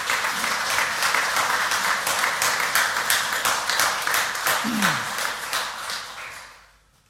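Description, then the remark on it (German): A church audience applauds the church's musical accompanist, a dense wash of many hands clapping at an even level for several seconds, with a brief voice rising over it before the clapping fades out. “möchte ich die Möglichkeit nutzen, Sie alle zu bitten, mal richtig zu applaudieren”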